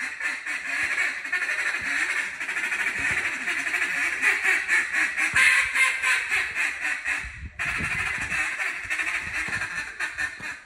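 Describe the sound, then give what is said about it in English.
A duck call blown in rapid, continuous bursts of loud raspy quacks, forceful, with a brief pause near the end before the quacking resumes; a winning call in a state duck and goose calling championship. No one speaks. “This is Mason Tate's winning duck call in the state duck and goose calling championships.”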